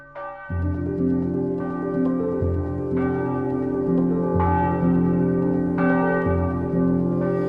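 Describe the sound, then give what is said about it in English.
Church bells ring out steadily, with a new strike roughly every second and a half, each ringing tone overlapping the last in a loud, resonant wash with no voices. “I heard the bells on Christmas Day.”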